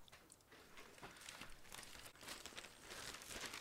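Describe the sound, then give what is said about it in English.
Newspaper pages rustle and crinkle as they're handled, a soft, continuous papery crackle with scattered sharper crinkles, fairly quiet, with no voices. “Can I take a look at your paper?”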